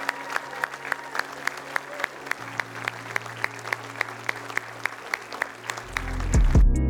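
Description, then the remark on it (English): An audience at a church service claps in steady unison as people raise their hands to accept Jesus, with sharp, even beats about three per second over a low background hum; near the end a loud, deep rumble swells in. “Come on, keep clapping.”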